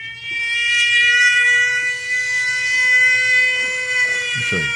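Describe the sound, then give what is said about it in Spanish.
A steady, sustained air raid alarm siren drones on without pause, its stacked high tones holding a constant pitch at strong volume, with a faint low rumble underneath. “Bueno, escuchemos esta alarma.”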